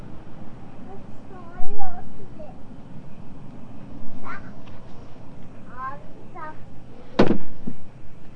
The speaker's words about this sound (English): All the socks. You're opening Daddy's drawer. Do you know how to close it? And then reach under the bottom and pull it open?